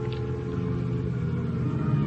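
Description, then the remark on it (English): A car arriving outside, its engine rumbling steadily in a low idling drone with slight revving, continuous, with no voices. “Then I hear a car outside.”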